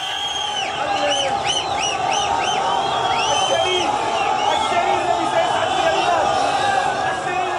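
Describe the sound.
A large crowd in Morocco cheers loudly and continuously as firefighters lift a small child out of a well onto a stretcher on a Saturday night, with rising whoops and high-pitched cries cutting over a dense roar of many voices throughout.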